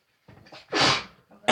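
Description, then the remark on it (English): A single loud sneeze, preceded by a few quick catching breaths, ending in a sharp burst with a noisy, breathy tail. “Bless you.”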